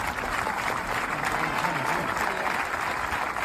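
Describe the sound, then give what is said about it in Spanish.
A large football stadium crowd applauds steadily in a sustained ovation as an ambulance leaves the stadium during a suspended friendly match, a dense wash of clapping and cheering that stays loud and even throughout, with a faint murmur of voices beneath. “Entró la ambulancia al campo, se lo llevó en la ambulancia, el partido fue suspendido de inmediato, los compañeros llevándose las manos a la cabeza, y este es el momento en que en medio de la ovación de la afición se retira la ambulancia del estadio.”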